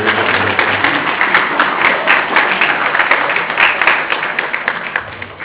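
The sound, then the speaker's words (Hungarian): Sustained applause from an audience at a municipal Christmas-time gathering, a dense crackle of many hands clapping steadily for several seconds at a fairly loud, even level, with no voices over it, applauding the leader of a folk dance ensemble. “Kati néninek, de a Kati nénem már mindig titulusa van, hogy gyorsan tapsoljuk meg őt előre.”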